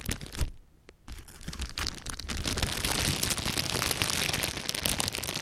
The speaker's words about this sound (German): Und was darin oft gezeigt wird, sind Trigger wie knisternde Tüten.